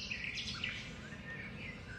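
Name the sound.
wetland birds calling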